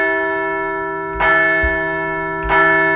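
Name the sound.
bell ringing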